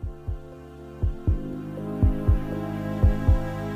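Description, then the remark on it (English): A deep, steady heartbeat thumps in lub-dub pairs about once a second at the start of a song, prominent over a soft, sustained synth drone with no voices. “Starts with a heartbeat.”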